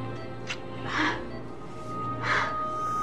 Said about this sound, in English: His chest heaves. He's breathing. He's breathing on his own.